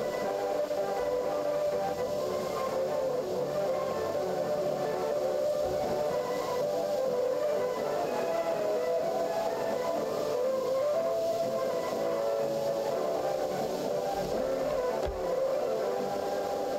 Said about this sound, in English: You hear the music and in the background you hear a Morse signal. Ti-ti-ti-ta-ta-ti, that means 4N. So each jamming station which jammed the Polish service of Radio Free Europe starting from 1977.